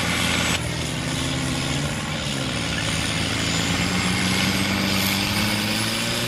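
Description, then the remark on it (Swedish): A BMW diesel tractor engine drones steadily while ploughing a field in spring, its low rumble and harmonic whine holding constant with slight pitch shifts as it works, with no voices present. “Vi är ute och kör järnet med en plog här. Det är en BMW-traktor, dieselmotor.”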